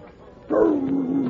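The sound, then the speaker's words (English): A dog named Rags lets out one loud, drawn-out whimpering bark that starts suddenly and slides slowly down in pitch, heard alone without any talking. “Meet Jerry, a friend of mine, and his dog, Rags.”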